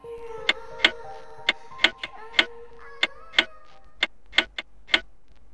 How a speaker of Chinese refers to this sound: 夜已经深了，望着墙上的时钟，已经11:45。